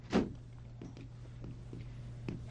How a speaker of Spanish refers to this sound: Por fin lo hace entrar en la salita cuajada de costosas antigüedades. Y cerrando la puerta...